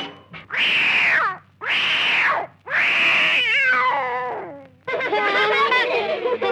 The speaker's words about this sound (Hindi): और टोकरी में एक बिल्ली का बच्चा।